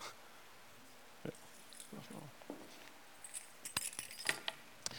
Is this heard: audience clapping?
no